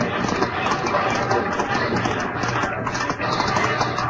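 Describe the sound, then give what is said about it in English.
Cavalry horses gallop in a charge in a dense, continuous rumble of hooves, loud, blended with a busy wash of commotion and indistinct shouting voices as men race and shoot. “Horses, men, racing, shooting, tumbling crazily as they fell screaming.”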